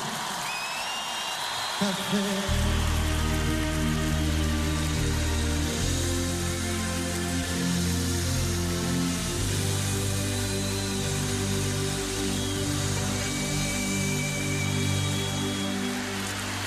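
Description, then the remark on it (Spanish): A large audience at the Viña 2000 festival in Chile applauds a performer in farewell, in a dense, steady wash of clapping that holds for the whole stretch, with a low sustained tonal hum and scattered cheers underneath. “Nos despedimos con este aplauso para él y regresamos para despedir Viña 2000.”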